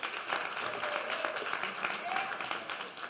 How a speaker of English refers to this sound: So, all right, if we will, let's receive the man of God with a little clap offering as he comes forward